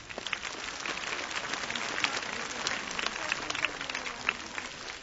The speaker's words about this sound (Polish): O, jeszcze oklaski malutkie.